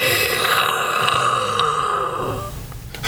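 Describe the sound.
A person imitates a dragon with their voice, a loud, raspy, gravelly growl held for a couple of seconds before fading into a short breathy snort at the end.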